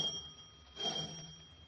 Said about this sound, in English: Did that sound like a doorbell to you